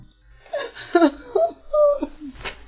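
A woman crying with high, wavering whimpers and sobbing moans in short bursts, fairly loud, with no clear words spoken.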